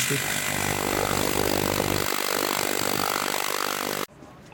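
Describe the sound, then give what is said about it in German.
Loud, harsh angle grinder and hammer drill grind and rattle against asphalt as it is being removed, a continuous whining roar with a pounding, chattering undertone, running steadily for about four seconds before cutting off abruptly. “Asphalt muss mit Flex und Schlagbohrer entfernt werden.”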